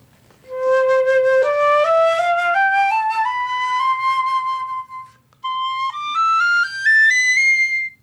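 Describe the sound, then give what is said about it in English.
A flute plays a rising C major scale in even, stepwise notes, then a piccolo echoes the same scale an octave higher, brighter and slightly quicker, with no talking. “I'm going to play a C major scale on the flute, and she's going to echo that on the piccolo”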